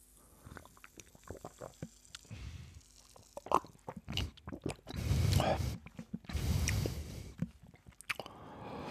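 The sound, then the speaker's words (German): Someone drinking a fizzy, clear, slightly yellowish lemonade: small wet mouth clicks and lip smacks, then a couple of louder gulping swallows and slurpy liquid noises in the middle, with a soft breath between sips. “So, dann trinke ich mal.”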